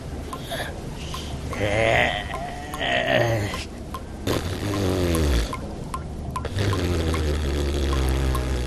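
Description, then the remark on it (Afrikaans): Continuous water splashing and pouring for several seconds, with sharp sloshing bursts and a few breathy gasps mixed in, as two figures surge up out of a river after holding their breath for a week. “Week lank asem moes ophou, verskyn Gomtor en Delmas uit die rivier.”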